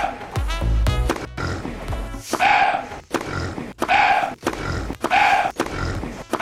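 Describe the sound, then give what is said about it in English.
A rapid back-and-forth of sharp thwacks like a tennis rally, each paired with loud animal-like grunts, snorts and squeals, a voice imitating a deer and a pig playing a quick Wimbledon-themed rally on BBC Radio 1's The Scott Mills Daily, the deer serving and the pig winning. “We have a quick rally between a deer and a pig.”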